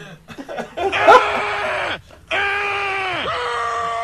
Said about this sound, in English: He just screamed. That's a Kevin McAllister greeting, bro.